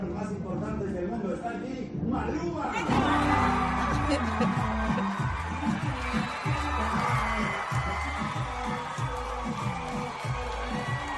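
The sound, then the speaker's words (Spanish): A concert crowd at a singer's concert bursts into loud, high-pitched screaming and cheering about three seconds in, as the singer comes out, continuing over a pounding, rhythmic bass beat from the music. “Ojo al momento en el que sale … y los grititos.”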